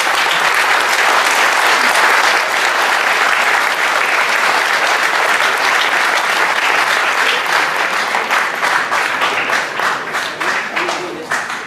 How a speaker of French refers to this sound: Donc merci encore à eux et je vous demande de les applaudir très fort.